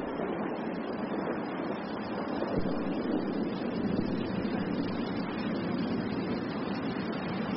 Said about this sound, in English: Rain, you gotta love it, eh?